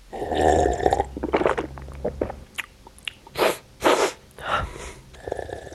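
Wet mouth noises of aroma researchers in Potsdam tasting food noisily for their job: lip-smacking and chewing, then a couple of sharp slurping or sniffing bursts, and a longer noisy slurp near the end. No one speaks.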